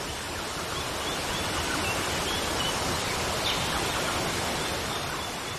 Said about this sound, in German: Spüre, wie das angenehme, vitalisierende Wasser des Wasserfalls auf deinen Kopf fließt.